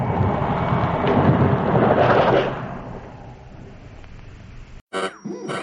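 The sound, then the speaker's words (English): A loud roll of thunder rumbles and swells for a couple of seconds, then fades into a steady hiss like falling rain before the sound cuts off abruptly. “Oh, it looks as though it were going to rain.”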